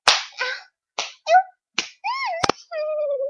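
Four sharp, loud slapping blows land at uneven intervals, each followed by a high, wavering yelp or cry in between the hits.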